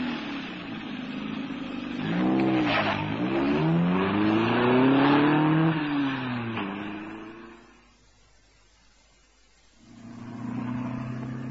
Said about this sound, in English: I hurled myself in the general direction of his voice, heard the engine fire, jumped in, and found myself screaming towards the dense New York traffic and comparative freedom in a swirl of dust and burning rubber.